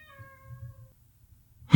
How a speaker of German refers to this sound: Was war das? Hast du das gehört? Ja. Das war eine Tür, eine knarzende Tür. Von der anderen Seite.